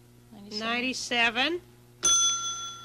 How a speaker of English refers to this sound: Now, did I ding the bell?